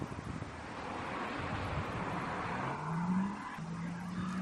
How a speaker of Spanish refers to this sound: Es posible que escuches poco o nada, ¿verdad? Bueno, pues este es el sonido de un coche atravesando la ciudad china de Wuhan. En los 30 segundos que dura el vídeo no se ve absolutamente nadie. Esto ocurría hace exactamente hoy 2 años.